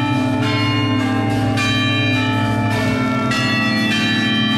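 A church bell tolls loudly and slowly, each heavy strike ringing out with a long, humming decay that overlaps the next, with no voices present.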